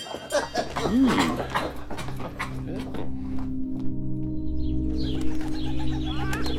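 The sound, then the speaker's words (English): A crowded chorus of birds coos and chirps continuously in Countess Gertrude's room of birds, the soft throaty cooing layered under scattered bright chirps, steady throughout. “My mother, Countess Gertrude, in her room of birds.”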